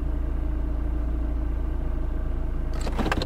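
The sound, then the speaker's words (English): Low, steady rumble of idling car engines on a road jammed with cars in all directions fills the scene without pause, a dense traffic drone, with a few brief rattling bursts breaking through near the end. No one speaks. “Oh, look at the road, it's filled with cars.”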